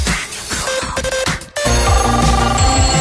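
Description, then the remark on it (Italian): A melodic electronic ringtone plays loudly, a repeating tune of bright tones that cuts off briefly and restarts fuller, with no one talking over it. “Telefono abbiamo Alice.”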